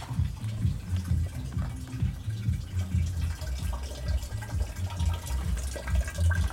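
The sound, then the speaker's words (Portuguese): Water pours steadily from a pipe into a bottle, a continuous splashing, gurgling flow with a rising filling tone and no voices. “É coisa pra sumir água pra vir pra cá. O cano tá aqui.”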